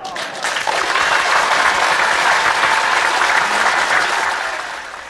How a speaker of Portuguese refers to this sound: Palmas para ela.